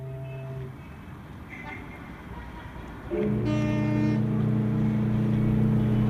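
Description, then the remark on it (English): Busy city street traffic near a harbor rumbles steadily. About halfway through, a loud, sustained droning tone from a vehicle joins in and holds to the end. “In a little while, the traffic will die away, and we will be left with the sounds of the harbor, which I find soothing.”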